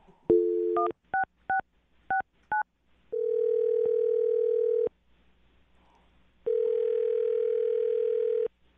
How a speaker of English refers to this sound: All right, I'm going to dial the phone number right now and see if we can get him on the phone. Here we go.